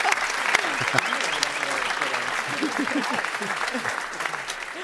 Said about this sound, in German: So, dann. Ja, Applaus. Ja. Also bitte. Ja, das war ein bisschen zögerlich.